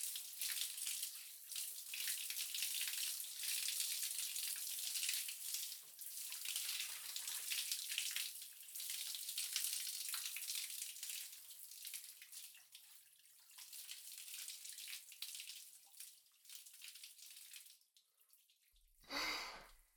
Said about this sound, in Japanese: では、そろそろ流しますね。泡が目に入らないよう、しっかりとまぶたを閉じていてください。